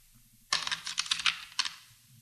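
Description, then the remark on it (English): Small pieces of lead type, stored in a wooden type case, clatter as a printer picks them up and drops them in a typesetting workshop in the basement of the Dartmouth College Library: a bright burst of rapid metallic clicks, a brief pause, then one more quick rattle over a quiet low hum. “a printer and art teacher at Dartmouth College, is picking up and dropping small pieces of lead type stored in a wooden type case.”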